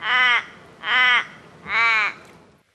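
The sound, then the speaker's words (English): An Australian Little Raven, the raven of Adelaide and Melbourne, gives three short, harsh, fairly high-pitched caws, evenly spaced about a second apart, loud, with no voices. “Bit of a shorter call, a bit more high pitched. That's the Little Raven.”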